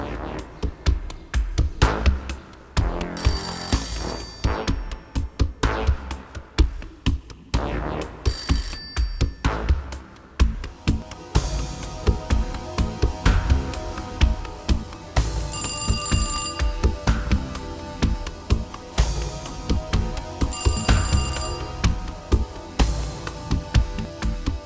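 A telephone bell rings in several bright, repeated bursts spaced a few seconds apart, heard over a dense, busy background of music and clatter, with no one speaking.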